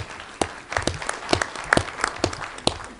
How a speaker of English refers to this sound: So, folks, let's have a big warm round of applause for